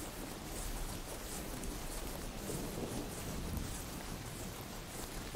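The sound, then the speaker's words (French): Steady rain hisses over a low, rolling rumble of distant thunder, the storm sound holding even and continuous throughout with no voices present. “Vous rouvrez les yeux et apercevez au loin le ciel s'obscurcir et se zébrer d'un éclair qui vient jeter un ray de lumière sur la prairie lointaine.”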